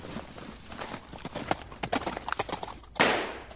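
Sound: horse hooves clip-clopping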